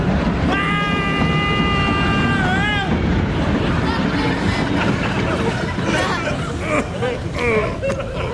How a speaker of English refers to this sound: Oh, oh, the train's coming, sir. The train's coming.